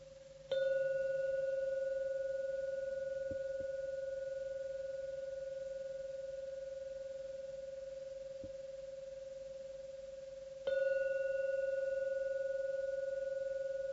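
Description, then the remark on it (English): A meditation gong is struck twice, about ten seconds apart, to signal the end of a meditation, each strike blooming into a steady, mellow ringing tone that hangs in the air and fades only slowly. No one speaks. “When the gong finishes sounding for the 3rd time, it's a signal to come out from your meditation.”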